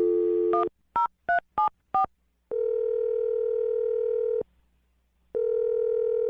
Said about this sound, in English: All right, I'm going to dial his phone right now. Here we go.